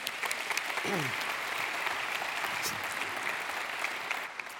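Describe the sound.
Steady applause from a sizable audience welcoming a speaker who comes to preach, dense and continuous clapping for several seconds with a brief voice-like sweep early on, tapering slightly at the end.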